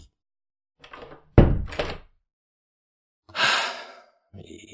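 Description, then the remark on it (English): A door shuts with a single heavy thud, preceded by a soft shuffle and followed by a long, breathy sigh amid otherwise quiet. “And the stinking door is...”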